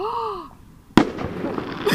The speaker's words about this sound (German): Ja, oh, Feuerwerk!